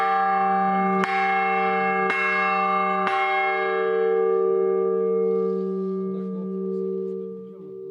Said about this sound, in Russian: После освящения Его Высокопреосвященство поздравил всех собравшихся с этим радостным событием и, позвонив в благовест, пригласил к этому всех желающих.